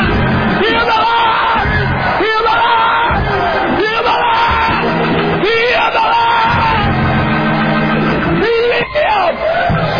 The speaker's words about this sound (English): Why are you cheering?